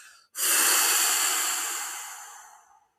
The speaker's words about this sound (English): So if listeners are doing this now, place a hand on your belly and a hand on your ribs and literally breathe out through your mouth. So you sound like the sea, like the waves going out.